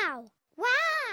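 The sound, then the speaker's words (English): A short, loud exclamation of "Wow!" from a young voice at the top of a mountain, then a brief silence and a second drawn-out call repeating it as an echo. The echo appears to be voiced rather than natural. “An echo is the sound you hear when you speak loudly in the mountains.”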